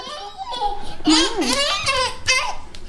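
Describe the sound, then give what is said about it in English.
A two-year-old toddler babbles and giggles at a family home in Jacksonville, high-pitched squeals and chattering syllables rising and falling over a few seconds with no adult speech. “When I arrive, I'm greeted by a rambunctious two-year-old.”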